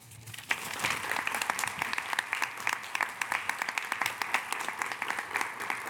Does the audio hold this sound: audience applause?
yes